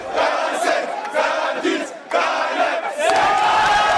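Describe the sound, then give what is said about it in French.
A large crowd in Kinshasa shouts and jeers in a loud, continuous roar at the president of the electoral commission as he brings the voting lists, with overlapping angry voices rising in waves and no single voice standing out. “Finalement, c'est le président de la commission électorale en personne qui est venu apporter les listes en fin de matinée, conspué par la foule.”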